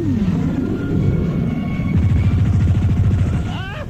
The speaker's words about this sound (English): I could see in the hot heat from the highway, the plane coming closer and closer. I tried to duck down as the plane made a low pass over my van.